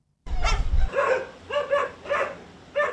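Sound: stray dogs barking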